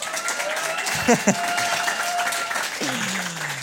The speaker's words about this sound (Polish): Nie wiem, czy tobie bili brawo, czy mi, że ja tak powiedziałem.